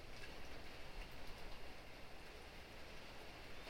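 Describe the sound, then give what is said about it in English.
Steady rain falls on a gray day in a dense, continuous hiss with soft patter, even and unbroken throughout, quiet, with no voices. “And just try to connect on a rainy, gray day. Just thanking this rain for all of the cleansing that's coming.”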